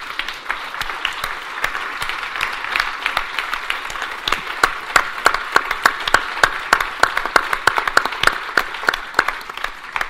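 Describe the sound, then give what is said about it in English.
A crowd applauds Lucia McBath, Jordan Davis's mother, steadily for about ten seconds, dense overlapping claps with sharp individual hand strikes, growing slightly louder toward the end. No one speaks. “Also, I want you to actually give a round of applause to Jordan Davis's mother, who is here, Lucia McBath.”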